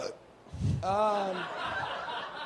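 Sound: burp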